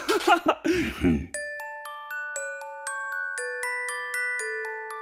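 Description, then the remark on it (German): After a brief voice at the start, soft little Christmas bells ring out a gentle melody, a dozen or so clear, lingering notes struck one after another at a steady, unhurried pace. “Wenn die Glöckchen leise klingeln, wenn die Wunschzettel gemalt werden und wenn ein kleiner Weihnachtsduft durch die Luft weht, dann weißt du, bald ist Weihnachten.”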